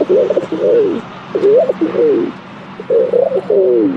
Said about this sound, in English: The rock pigeon.